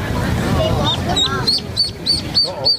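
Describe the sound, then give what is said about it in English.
Baby ducks peep in a rapid series of high, thin chirps, repeating about twice a second over a low background murmur. “All right, I now present to you the sound of baby ducks.”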